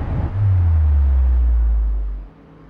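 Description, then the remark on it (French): A heavy, low roar of thousands of flying cars in stacked layers of dense traffic, nearly colliding, swells in quickly and holds loud for about two seconds over a broad hiss, then drops away. No voices. “des couches de voitures se superposent, se heurtent presque en faisant beaucoup de bruit, et à travers les yeux effrayés du personnage qui regarde les voitures voler par milliers, eh ben, y a évidemment notre angoisse devant ces villes possibles.”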